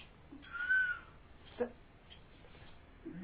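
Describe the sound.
A person imitates a cuckoo's call with their voice, giving a drawn-out hooting note followed by a shorter, sharper one. The call is moderately loud against a quiet, slightly noisy background.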